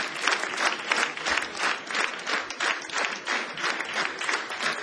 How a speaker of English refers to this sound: Y'all clap in simultaneity.